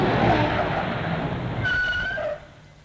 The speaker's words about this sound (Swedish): Titta, som tur, där kommer en annan bil, jag ska ta stoppa den så.